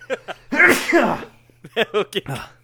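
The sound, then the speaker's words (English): A single loud sneeze from a person with allergies bursts out with a sharp intake and explosive release, followed shortly by a person talking. “God bless you and your allergies, soul.”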